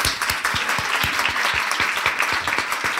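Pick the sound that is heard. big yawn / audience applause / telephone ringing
audience applause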